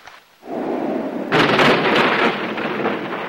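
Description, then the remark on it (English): A deep rumble of thunder in a nighttime storm with lightning swells in after a brief quiet, then breaks into a louder, crackling roll that sustains with a steady hiss like rain, full. “Nighttime. A flash of lightning illuminates the gloomy Ackenthorpe mansion.”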